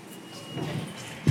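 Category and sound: machine, elevator doors opening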